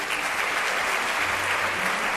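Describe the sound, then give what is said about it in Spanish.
A steady wash of audience applause at a gala for the new Pope, Leo XIV, many hands clapping at once in a dense, continuous burst that holds an even loudness throughout without any voices over it. “León XIV, les pido para él un fuerte aplauso.”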